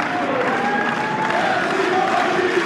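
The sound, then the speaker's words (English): A large tennis stadium crowd roars and applauds continuously after a match, a dense wash of cheering and clapping filling a big open space, with faint voices mixed into the din. “Tough to find the composure to say anything significant after you've been involved in a battle like that in front of a crowd like this.”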